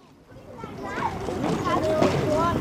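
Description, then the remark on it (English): Children's voices chatter and call out together outdoors as they hang from monkey bars in a playground where the Danube meets the Inn River, high-pitched and overlapping, growing a little louder and busier as the moments pass. “Just a few miles from Abbot Emmanuel's church, children hang from monkey bars in a playground where the Danube meets the Inn River.”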